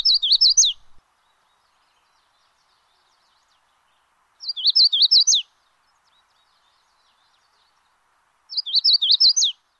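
magnolia warbler song

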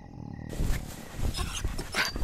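dog panting and whimpering

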